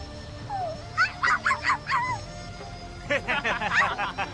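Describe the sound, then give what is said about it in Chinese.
A dog lets out two quick runs of high, yelping barks mixed with whiny whimpers, moderately loud, with a brief pause between the bursts and no one talking. “趁水打劫，狗也会怨的。”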